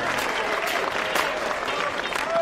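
Hands clap in a steady, dense patter that runs without a break for the whole moment, loud and close, with no pauses between the claps.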